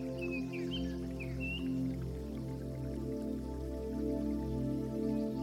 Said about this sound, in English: While the birds sing, and a soothing gentle breeze in the upper branches of the trees creates such soft rustling movement above.